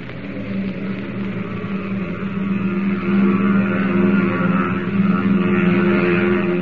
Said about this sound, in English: As the giant steel bird pierces the curtain of night and roars upward on its test flight